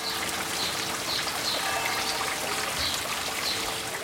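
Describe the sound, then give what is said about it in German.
A small watercourse flows and trickles steadily through a botanical garden laid out by missionaries, a continuous babble with faint higher chirps scattered through it, and no voices. “Ein Wasserlauf durchteilt den Garten, der von Missionaren angelegt wurde.”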